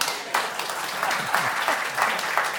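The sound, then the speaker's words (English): Steady applause from a crowd, many hands clapping in a dense, continuous patter for a couple of seconds with no voices on top. “You got to clap.”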